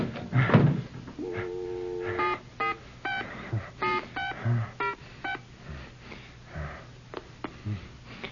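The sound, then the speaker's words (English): A telephone being dialed: a held tone, then a rapid series of short keypad beeps in an uneven rhythm, clear, with a few soft handling thumps and rustles around them. “I'm going to call her right now and tell her that.”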